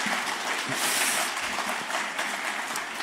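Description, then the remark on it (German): An audience at a sermon claps for two helpers, many hands making a dense, crackling wash of applause that stays fairly even and strong for about three seconds, with no voices over it. “Also einen Applaus für die beiden, dass sie mir beim Predigen helfen.”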